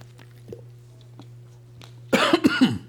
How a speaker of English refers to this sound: Sorry, I keep coughing into that. I intend to shield that and I don't.